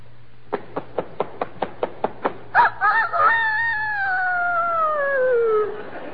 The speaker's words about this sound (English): Now a year old rooster.